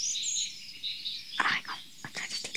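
great tit singing

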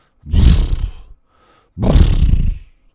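seals snorting twice

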